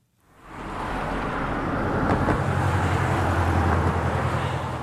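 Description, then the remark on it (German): Road traffic where the Overseas Highway begins in Manatee Bay, Florida, swells in and holds as a steady, broad roar, with a low engine rumble shifting partway through as vehicles pass. No voices. “Wo der Overseas Highway beginnt, in Manatee Bay, Florida, ragen Palmen in den strahlend blauen Himmel.”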